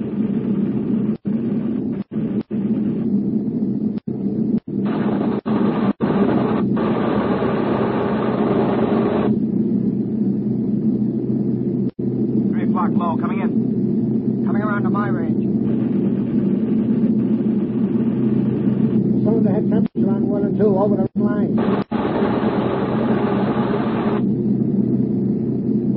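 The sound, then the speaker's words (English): A steady, loud drone of an aircraft's piston engines runs unbroken throughout, deep and rumbling, with a faint hum on top and a few brief clicks and dropouts. No one speaks. “Cool them off. It'll slow us down. I can't help it. These engines have got to get us back.”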